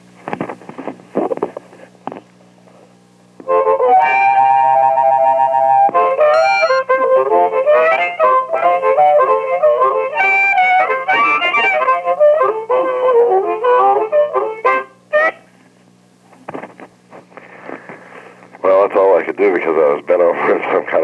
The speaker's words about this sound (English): I guess you want me to play some harmonica now, right? Okay. I was just going to request that, actually. Yeah. I'll play you a tune.